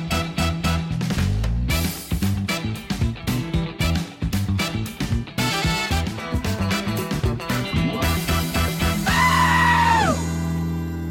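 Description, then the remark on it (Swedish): A goat bleats and screams loudly and almost without pause, in harsh, ragged cries packed close together, ending with one long, wavering scream. “då vet geten att nu jävlar, nu blir det åka av.”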